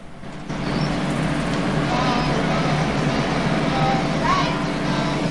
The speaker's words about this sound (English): Along the road trundles the yellow school bus. The bus goes over the Golden Gate Bridge. It's dwarfed by the enormous struts and pillars.